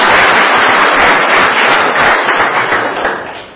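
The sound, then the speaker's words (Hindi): An audience claps together in a dense, steady burst of applause lasting a few seconds, loud throughout before gradually thinning and fading away at the end. No one speaks over it. “ताली बजाना तो आता है ना, क्यों भी भूल गए ताली नहीं बजाता।”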